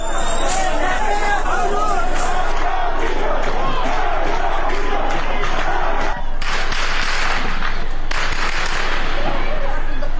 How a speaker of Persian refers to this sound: از سوی دیگر تصاویر دریافتی از مهاباد در روز پنجشنبه نشان می‌دهد که تجمع شمار انبوهی از شهروندان معترض در مقابل فرمانداری این شهر با تیراندازی شدید و ممتد ماموران به سمت معترضان مواجه شد.